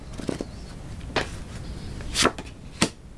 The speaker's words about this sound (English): Victory. Again, after shuffling and cutting. I'm going to cut one more.